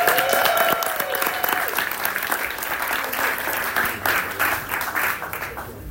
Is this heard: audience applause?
yes